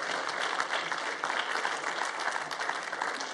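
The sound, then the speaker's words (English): A church audience applauds steadily for first-time visitors for several seconds, a dense, even wash of many hands clapping at once with no voices rising above it. “So go ahead and clap for our first-time visitors.”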